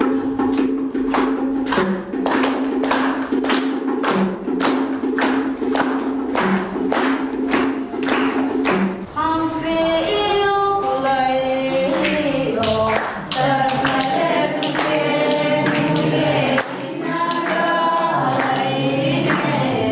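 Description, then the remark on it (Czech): Nearly a whole hall of people sings together to a steady beat, with rhythmic clapping and finger-snapping from those not singing in the first half and voices swelling into melodic group singing later, loud throughout. “Zpívali skoro celý sál. Ti, co nespívají, tleskají, luskají prsty nebo se jen tak vlní do rytmu.”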